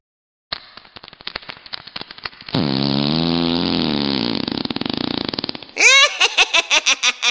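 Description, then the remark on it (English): A drawn-out fart starts with crackly sputters, swells into a loud, low, wobbling blat, and finishes with about seven short, squeaky, higher-pitched toots. No one speaks. “Blame it on the barking spider. Who smelt it, dealt it.”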